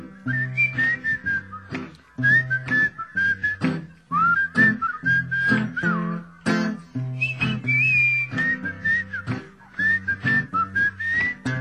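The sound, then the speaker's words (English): A group of people whistle a bright, wavering melody over a steady rhythmic backing with bass and percussive hits, continuing clearly and at moderate loudness throughout. “Everybody whistling.”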